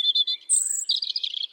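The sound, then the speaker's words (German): A European robin sings a short, clear phrase of high, thin notes, opening with three quick chirps, then a sustained whistle and a rapid tumbling twitter, alone with no voices. “Also Rotkehlchen sind ja mit die aggressivsten Kleinvögel, die es überhaupt gibt.”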